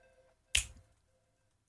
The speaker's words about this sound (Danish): Og det er et rigtigt knips, det bruger den her. Der er vel optaget et godt knips, ligesom du har nogle gode... Og så bruger man bare dem.